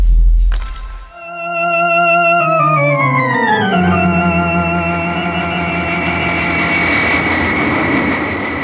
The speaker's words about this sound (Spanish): El gigantesco jet continúa su vuelo. Han pasado 2 horas desde que inició el viaje desde el Aeropuerto Internacional de Estambul.